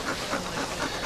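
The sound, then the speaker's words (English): A female dog that is too hot pants rapidly and steadily, quick breathy huffs in an even rhythm with no voices over it. “This dog was too hot.”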